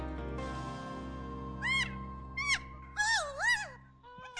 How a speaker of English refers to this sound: Is this the sound of baby conversation? Chipmunks who huffed some helium? Wrong and wrong. These are the laugh-like calls of kea parrots from New Zealand.